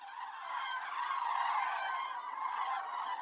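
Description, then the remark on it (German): A dense, continuous chorus of honking birds, like a large flock of geese, swirling overhead, steady and loud throughout without any talking. “bildet sich so ein Strudel aus Vögeln.”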